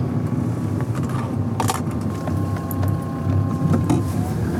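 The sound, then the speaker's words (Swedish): A Land Rover Defender's engine drones steadily from inside the cabin, with low rumble and occasional clicks and rattles, as the car slows and turns off the road. “Det är nu ett svepskäl egentligen, man kommer nog upp med en Toyota Yaris också här, men det är kivogare att köra med en Land Rover Defender. Det är bara så. Så här svänger vi av.”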